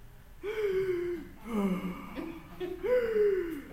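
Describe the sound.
A voice imitates heavy, forceful monster-like breathing like Darth Vader, demonstrating forced breathing: three loud rasping breaths in a slow steady rhythm, harsh, with short pauses between them.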